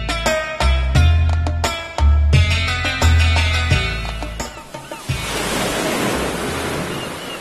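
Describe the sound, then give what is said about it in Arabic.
A short melodic music passage with deep bass fades into a steady rush of ocean waves breaking on the sandy shore of an island, the surf filling the last few seconds on its own. “نحن محتجزون بين البحر والرمل”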